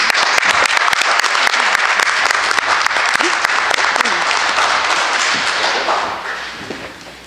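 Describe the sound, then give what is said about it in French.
Members of the Saint-Bernard-de-la-Côte municipal council applaud themselves at a council meeting after pledging to the elected officials' code of ethics: steady, dense overlapping claps with sharp transients for several seconds, then the clapping thins and fades out near the end. “On peut s'applaudir.”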